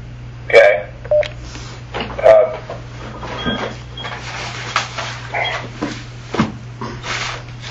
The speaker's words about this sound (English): Okay, I need to hang up and dial that number.